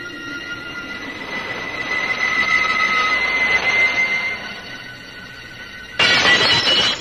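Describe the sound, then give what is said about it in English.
A house window pane is smashed during a break-in with a sudden bright crash near the end, breaking through a steady metallic hum and squeal that fills the preceding seconds. “We'll break in and see what we can lay our hands on in the way of food.”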